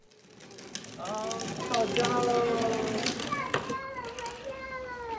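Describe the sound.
A small plastic bike rattles and clicks along as it is pushed, while a toddler babbles and squeals happily close by, with adult voices faint in the background.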